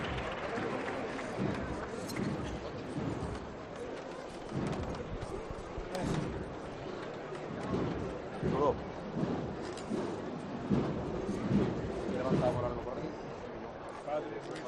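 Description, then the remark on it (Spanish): A large outdoor crowd in the Plaza de la Campana city square fills the space with a dense, steady wash of clapping and murmuring voices, loud, rising in a few swells with no single voice standing out, as a procession float reaches the palquillo and stops. “Y con ese gran cambio llega al palquillo y paran el paso con esos aplausos en la plaza de la campana.”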